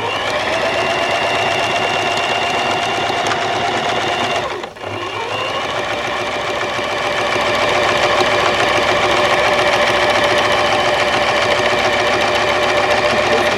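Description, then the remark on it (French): Distant sewing machines run steadily, a continuous whirring, rattling drone with a rapid mechanical pulse; it briefly dips and stalls partway through, then resumes slightly louder. No one speaks. “C'est surtout qu'elles sont très loin, les machines à coudre.”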